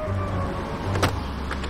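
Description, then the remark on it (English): A car door latch clicks sharply once, with a fainter click a moment later, over a steady low engine hum inside the vehicle, as a woman tries to open the car door after the car pulls up at a train station. No one speaks. “She tries to open the car door.”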